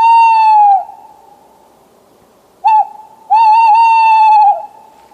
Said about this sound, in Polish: Oczywiście, jeśli sowy się odzywają, no to też na naszej mapie notujemy takie rzeczy.